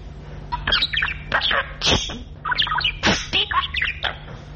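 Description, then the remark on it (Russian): A pet bird named Petrovich, which wants to eat, chirps and squawks in its cage in quick, irregular bursts of sharp calls for several seconds, over a faint steady low hum. “Птичка, это птица, Петрович.”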